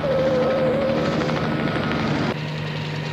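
A helicopter flown by Crandall roars steadily and loudly as it keeps blocking a car on bumpy ground. Its rotor drone shifts pitch as it hovers and moves about, with a sudden drop in intensity near the end.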